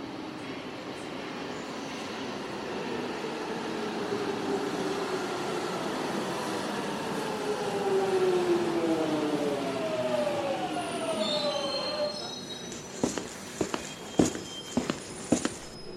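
Steady rumbling ambience of a moving train heading toward central Beijing in the early morning, with an electric motor whine that rises and sweeps in pitch, followed near the end by a few sharp clicks and knocks. No one speaks.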